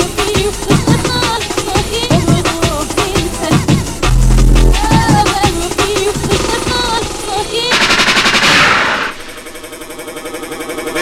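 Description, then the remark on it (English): Loud, rapid gunshot effects crack over a dense, busy music mix, followed by a rising rewind-like sweep before the track thins out. “Rewind, the gunshot means forward.”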